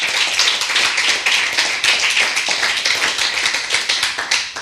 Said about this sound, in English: So. And a round of applause, please. Thank you.